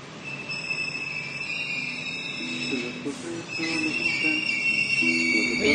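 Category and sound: vehicle, subway train passing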